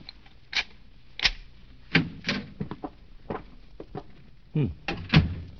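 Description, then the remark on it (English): A run of sharp metallic clicks and clunks, irregular, like a key working a lock, as a hotel room door is unlocked and then pushed open, with no voices. “I guess I'd better unlock it.”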